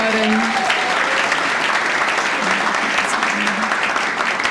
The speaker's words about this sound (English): And also, this is my ride or die man right here. He's with me everywhere I go. Let's give him a round of applause for my brother,